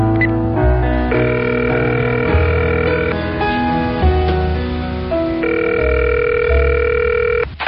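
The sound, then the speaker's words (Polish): Steady electronic telephone tones sound continuously for several seconds, shifting pitch in blocks as a call from a mobile phone rings through to a hotel, loud with no one speaking. “No i gdzie moja komórka? O, jest.”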